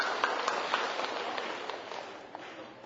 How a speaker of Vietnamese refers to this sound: Rồi, thầy hoan nghênh cô, cho tràng pháo tay.